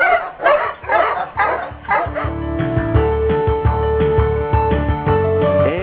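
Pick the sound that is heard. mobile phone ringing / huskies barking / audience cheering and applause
huskies barking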